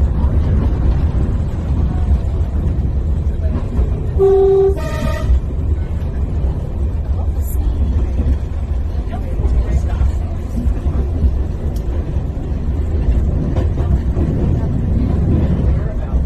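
A steady, loud rumble of a running train in Wales fills the whole stretch, broken early on by two short horn toots in quick succession before the engine noise carries on alone.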